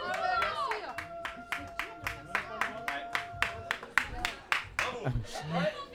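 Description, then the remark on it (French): An audience, including people from the South, claps to show they liked it, in a steady, rhythmic beat, roughly three sharp claps per second, fairly loud, while voices talk and call out underneath the clapping. “On applaudit si on a aimé là-bas, on applaudit.”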